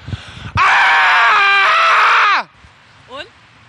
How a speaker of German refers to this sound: Und das soll helfen? Ja, also offensichtlich öffnen sich da Pforten zu dir selbst. Soll ich mal schreien? Ja. Ich schrei mal.